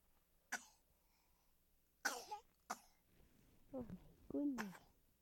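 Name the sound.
sneeze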